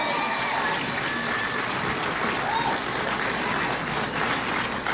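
A crowd claps steadily, a dense, even roar of hands that stays loud for the whole stretch, with a few faint cheers or whoops rising through it.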